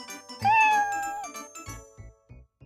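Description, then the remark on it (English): A single drawn-out cat meow, clear, rising then trailing off, followed by a few short, soft thumps with a faint jingle. “The girl with the purple purse has a cat.”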